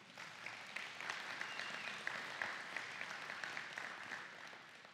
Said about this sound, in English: And I'd like you to thank him just for me. Can you do that? Like, clap your hands.